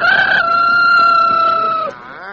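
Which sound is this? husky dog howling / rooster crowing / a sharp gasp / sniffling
rooster crowing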